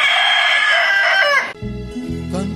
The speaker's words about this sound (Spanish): Canto amigo, canto mil veces cantado. Suena el clarín de los gallos cuando la mañana viene, y como dice Benedetti, el canto no se acaba.